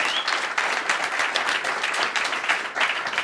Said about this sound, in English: So, first of all, just, again, a quick round of applause